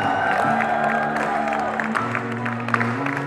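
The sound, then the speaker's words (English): A concert crowd claps and cheers steadily for the security guards for a few seconds, a dense wash of applause with scattered whoops over a sustained low humming tone. “And heck, let's give it up to those security guards.”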